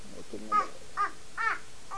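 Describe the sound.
A crow caws four times in a steady, evenly spaced series, each call harsh and fairly loud, with a brief human voice at the very start.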